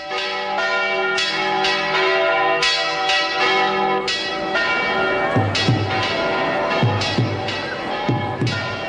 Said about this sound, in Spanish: Y Elche, mientras las campanas repican al aire luminoso de la mañana, sigue el refrán a pie juntillas.